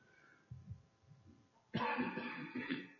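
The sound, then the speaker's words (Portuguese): Soft throaty sounds give way to a loud fit of harsh coughing from a speaker with a sore throat, several rough bursts running together for over a second with no talking. “Então eu estou com crise de tosse.”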